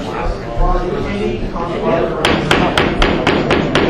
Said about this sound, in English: The gavel is banging, folks. The call for the animals to get back in the cages, please. All the animals back in the cages.